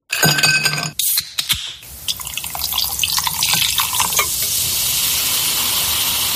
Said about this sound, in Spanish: Este sonido, que es el de abrir una lata, y el gas, el de las burbujas, también es ASMR.